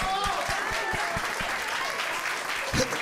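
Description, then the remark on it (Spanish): An audience at a show applauds steadily for about three seconds for a woman who spoke throughout the show, a dense wash of clapping with a regular low thumping beat running through the first half and a brief louder swell near the end. “Aplauso para ella.”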